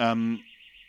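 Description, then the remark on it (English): A steady, high-pitched alarm tone rings continuously in the background, slightly wavering, while a voice sounds briefly at the start before the ringing carries on alone. “Is the alarm very annoying? I'm not sure if it's coming up on the microphone.”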